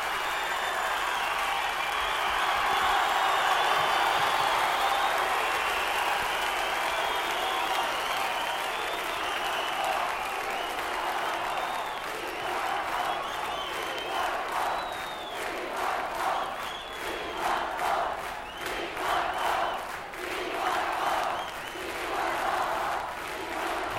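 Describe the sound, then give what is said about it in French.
A large concert crowd at the end of a live album recording cheers loudly at first with shouts and whistles, then settles into steady, dense applause that continues with scattered whoops throughout. “Bon, alors on va laisser la foule.”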